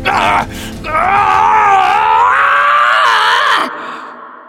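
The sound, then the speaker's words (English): A man lets out a long, agonized, terrified scream, loud, wavering and straining for several seconds before breaking off, with a short cry just before it. “she could still hear the terrified screams”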